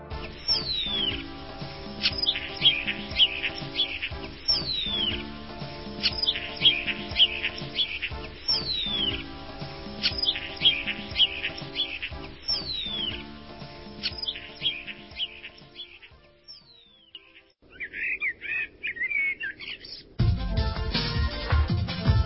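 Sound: starlings calling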